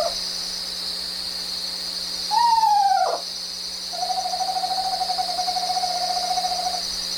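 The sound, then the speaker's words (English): An Eastern Screech Owl gives a short descending whinny, then a long, even, monotone trill lasting a few seconds, heard clearly over a steady high insect-like hum. “That was the Eastern Screech Owl”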